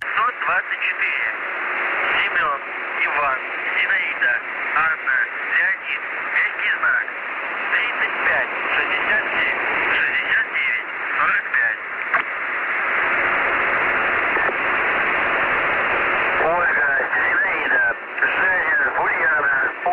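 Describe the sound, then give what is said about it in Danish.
A shortwave radio recording of the channel known as The Bosser, made around 6 pm on 13 December 2018: a band-limited, noisy channel with a steady hiss and a garbled, warbling voice message coming through in bursts, with a louder buzzing stretch partway through. “Det er den velkendte, men alligevel ukendte The Bosser, dog med en talebesked-dialog, hvilket er ret sjældent.”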